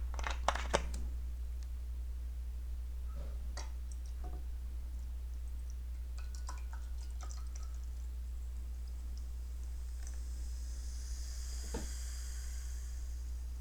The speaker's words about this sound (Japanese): で、しっかりグラスに注いでですね、最後に炭酸を入れますね。